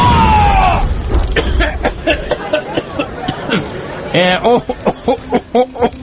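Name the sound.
explosion boom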